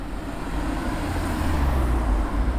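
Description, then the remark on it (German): Steady low rumble of passing vehicles, a continuous wash of road noise with engines droning and no pauses between them, swelling slightly toward the end: heavy car traffic through the village of Brunnen, where all cars coming from the south over the Axenstrasse must drive through the village. “Wie geht aber das Dorf Brunnen damit um, dass jetzt viel mehr Verkehr hat als sonst?”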